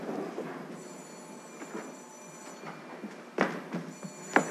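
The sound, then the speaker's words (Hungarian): A telephone bell rings in two bursts, a long ring and then a second one starting, in a flat's living room on an April evening as a woman hurries to answer it, over a low rumbling background with a few sharp knocks and clatters. “a telefonhoz siet. Felveszi.”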